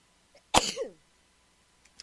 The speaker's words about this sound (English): just had to stop and sneeze. I don't think that's ever happened in all the years that I've been on the air. I had to sneeze.